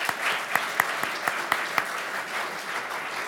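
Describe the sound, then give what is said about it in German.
At a church service, an audience applauds a young drummer, his mother and others with steady, dense clapping, a few sharper individual claps standing out in a quick rhythm before the applause continues at an even level. “Dieser Beifall gilt aber auch der Mutter und den anderen.”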